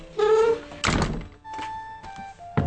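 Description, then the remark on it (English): The old, squeaky wooden door of the John Howland house in Plymouth, hundreds of years old and the only house still standing there where a Mayflower pilgrim lived, creaks on its hinges as it is closed, shuts with a heavy, hollow thud, then gives a few high squeaks and a final sharp knock as the latch settles. No one speaks. “bids us close the door”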